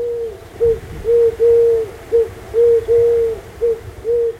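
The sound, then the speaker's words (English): A Eurasian Collared Dove, a pale grayish-tan bird with a slim black collar, coos in repeated three-note phrases, low and hollow, with a longer middle note. Clear, with no voices. “There, in 1974, a bird called the Eurasian Collared Dove escaped from captivity and began to breed in the wild.”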